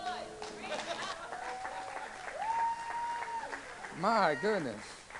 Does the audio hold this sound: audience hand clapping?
yes